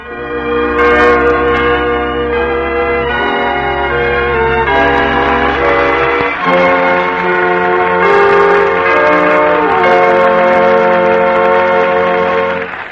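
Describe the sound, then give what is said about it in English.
The bells of the mission church at San Angelo ring out loudly and continuously, overlapping peals with rich, sustained harmonic tones swelling and layering over one another, with no voices present. “The bells of San Angelo.”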